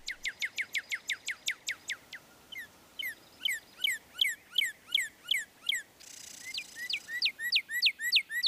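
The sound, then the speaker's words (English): A northern cardinal sings a rapid series of clear, sharply slurred whistles, first a fast run of downward sweeps, then slower, looping two-part phrases repeated steadily with no one talking. “Plus, on bright and sunny winter days, cardinals will sing.”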